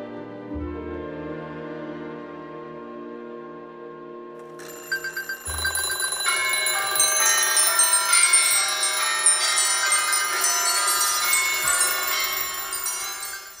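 Many alarm clocks burst into ringing together after a few seconds of low, sustained tones, making a loud, bright, continuous jangle of bells with no voices.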